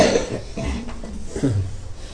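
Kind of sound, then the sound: human body sound, cough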